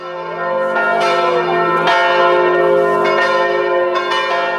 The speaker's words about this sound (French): Piste numéro 28, les cloches de l'église.